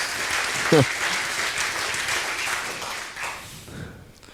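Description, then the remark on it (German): Sustained audience applause for the participants of a soldering workshop, a dense steady wash of many hands clapping at moderate loudness, with a brief louder burst early on before it tapers off toward the end. “Der Applaus gilt euch.”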